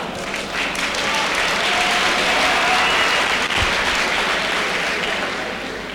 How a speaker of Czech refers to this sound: Obecenstvo tleská, obecenstvo se směje.